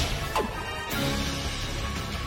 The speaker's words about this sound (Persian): تو نمیدونی چطوری میشه یه سنگ دریایی 10 تنی رو تکون داد؟ چرا میدونم. آب پرفشار.